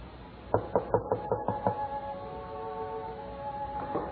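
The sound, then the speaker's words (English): A rapid series of about seven sharp knocks on a wooden door by people seeking lodging for the night, evenly spaced and fairly loud, followed by a quiet lingering tone with no voices. “Who knocks at this hour?”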